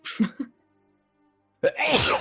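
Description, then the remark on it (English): A couple of short breathy catches, a brief pause, then one loud, explosive sneeze that trails off with a spray of hissing noise. “Bless you.”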